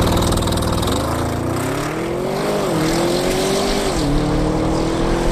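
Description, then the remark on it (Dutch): An Audi RS6 engine revs hard, pitch climbing steadily with two brief dips as it shifts gears, accelerating loudly and continuously to 100 km/h with no one speaking. “Rijimpressie in de nieuwe Audi RS6.”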